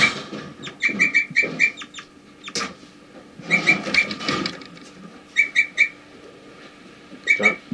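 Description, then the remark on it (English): Short, high flight calls from a bunch of birds, including birds 4-3 and 3-3, come in quick clusters of three or four sharp chirps, separated by pauses, with a few fuller bursts of calling in between. No one is speaking. “Getting flight calls.”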